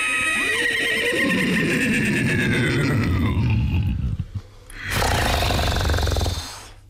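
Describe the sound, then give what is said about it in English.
A puppeteer from the National Theatre's production of War Horse imitates a horse, starting with a wavering, falling whinny and then shifting into rough, rumbling snorts and a loud breathy blow. The sound is forceful, with no talking. “The puppeteers make the noise as well.”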